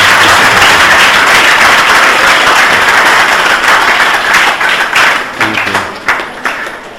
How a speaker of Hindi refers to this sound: थोड़ा जोर से तालियां आप लोगों को, तालियां।